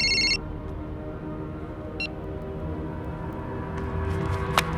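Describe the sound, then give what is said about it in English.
A short electronic phone ring chirps at the start, followed by a brief second trill a couple of seconds later, over a steady low background rumble, as Erickson rings back Peter Strahm's mobile phone, which Hoffman holds and switches off. “Erickson rings the phone back.”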